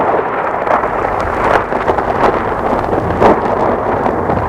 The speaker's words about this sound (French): tout à coup, un orage éclate d'une telle violence qu'il est obligé de s'abriter dans une vieille allée.